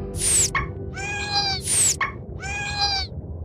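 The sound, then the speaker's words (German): Two dolphins call in two matching rounds: a sharp burst with a high whistle sliding downward, then a longer, buzzy, harmonic-rich whistle. The pattern repeats twice, fairly loud, with no talking. “Zisch und Klick. Ha, so nenne ich euch beide.”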